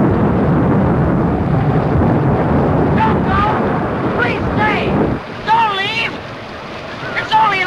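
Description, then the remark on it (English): A loud, steady roar of hurricane wind and heavy rain soaking a stage, as the wind knocks Mickey onto his back, fills the first five seconds, then abruptly cuts off, leaving brief wavering vocal sounds over a quieter background. “The wind knocks Mickey onto his back, and rain soaks the stage.”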